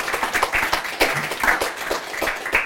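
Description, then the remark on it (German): An audience in the Kakadu-Bar of the Mainz State Theatre applauds steadily to welcome the writer Inga Maria Malke, many hands clapping in a dense, continuous patter at moderate loudness with no voices on top. “bei mir sitzt, und das freut mich sehr, und da würde ich Sie um einen Applaus bitten, die Schriftstellerin Inga Maria Malke.”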